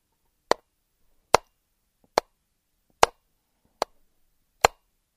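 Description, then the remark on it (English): Someone makes six evenly spaced, crisp mouth clicks, mimicking the steady tick of a clock's escapement at a slow, regular pace with silence between each. “Now, it's the escapement that you hear when you're listening to a clock and it's going.”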